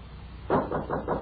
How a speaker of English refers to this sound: And as he looked thoughtfully after the retreating carriages, there was a knock upon the door.